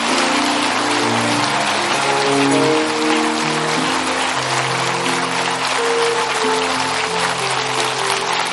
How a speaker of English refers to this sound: Give them a hand clap as they come. Is that good? Come on, give them a good one.